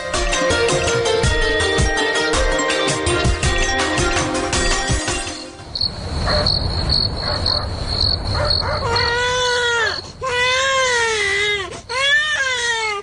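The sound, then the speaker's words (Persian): A baby who has been sick for several days cries loudly in several wailing bursts with short gaps, following a stretch of music and a steady high insect-like chirping in the background. “چند روز میشه که بچه مریض است، سبا پیش دکتر ببریش.”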